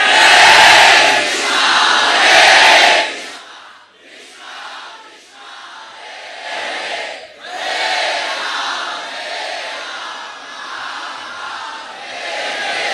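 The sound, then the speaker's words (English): A large crowd of about 3,500 devotees chants loudly together, a dense roar of many voices that swells at first, dips briefly after a few seconds, then builds back up and carries on steadily. “All you 3,500 devotees together are not even close to the volume of one of those little children.”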